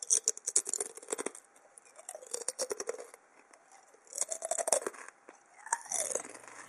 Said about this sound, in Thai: เปรียบเทียบกับเสียงเคี้ยวมันทอดค่ะ